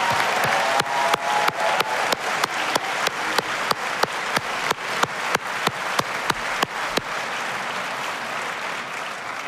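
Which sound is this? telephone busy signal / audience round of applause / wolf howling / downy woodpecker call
audience round of applause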